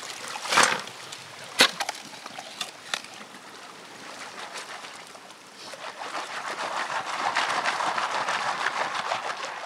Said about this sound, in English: He picks a river bend where the water would have likely deposited some of the heavy metal and starts digging.